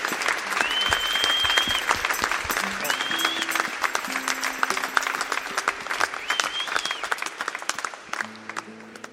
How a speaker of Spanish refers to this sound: Eu já peço aqui uma grande salva de palmas para este grande senhor e este grande contributo para a música portuguesa.